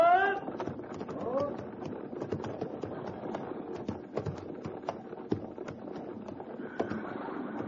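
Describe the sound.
Many horses' hooves clip-clop in a steady, overlapping clatter as a mounted patrol arrives, with a shouted voice at the start and faint murmuring beneath.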